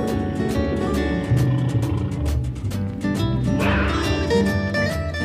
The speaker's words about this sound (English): Such a scary growl. It's a big cat with stripes down his back.